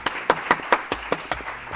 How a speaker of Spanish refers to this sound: Pero, señores, quiero que le demos un fuerte aplauso a uno de los mejores copilotos que hemos tenido. ¡El Puma!